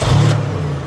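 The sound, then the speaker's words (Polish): A simulated V8 engine sound from a Sound Racer device plugged into a car's cigarette lighter socket rumbles loudly for about a second, a brief raspy burst at the start settling into a deep, steady low-pitched drone, with no talking. “Liczy się to, co jest wewnątrz, a wewnątrz pracuje silnik V8.”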